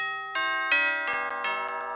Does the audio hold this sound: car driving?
no